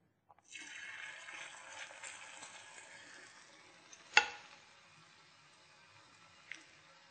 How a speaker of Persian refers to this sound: روغن که قبلا داغ کرده بودیم حالا داخل روغن با همین قاشقی که درست کردیم، یا میتونین با هر چیز دوست داشتین میتونین داخل روغن بریزیم.